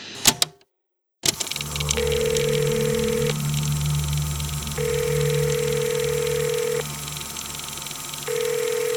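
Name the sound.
mobile phone ringing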